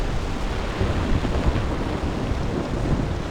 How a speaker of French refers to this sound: Et puis les vagues, le vent, tout ne sonne pas comme d'habitude. Mais c'est parce que le son, sa diffusion, sa perception, change en fonction du milieu dans lequel il se propage.